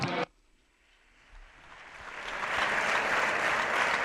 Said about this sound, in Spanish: los miembros del Partido Popular aplaudiendo a Pablo Casado